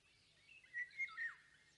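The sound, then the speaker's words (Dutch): Three quick, high bird chirps in a row over a soft wash of faint twittering, as many birds of many different kinds call quietly from the branches of a large, old tree in a garden. No one speaks. “Ze wassen hun veren en maken allerlei geluidjes.”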